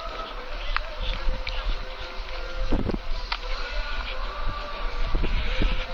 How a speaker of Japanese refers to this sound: 自然の中ではこの車のエンジン音とか音楽がちょっとそぐわないというか、雑音ですね。